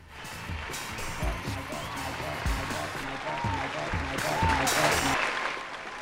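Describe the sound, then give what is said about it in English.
A crowd applauds steadily with scattered cheers and whoops, a dense wash of clapping that swells slightly toward the end before easing off, with no clear speech. “The crowd absolutely loves it.”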